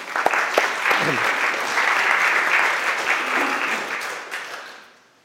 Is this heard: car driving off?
no